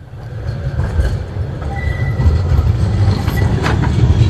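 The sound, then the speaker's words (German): A tram rumbles steadily along its rails, travelling from the city centre uphill to Gerresheim, heavy low-end rolling noise with faint metallic squeals and clicks rising over a few seconds, no voices present. “Wenn man von der Innenstadt mit der Straßenbahn nach Gerresheim fährt, geht's etwas den Hang rauf.”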